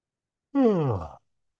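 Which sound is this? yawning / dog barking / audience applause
yawning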